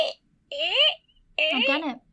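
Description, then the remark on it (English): A voice imitates a creaky floor with two drawn-out, high, squeaky creaks, each bending in pitch and separated by a short pause, after a brief sharp sound at the start. “Whenever I do a voice, it always, like, leans to that creaky, high-pitched sort of thing.”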